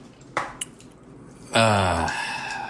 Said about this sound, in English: But as soon as I drain the water...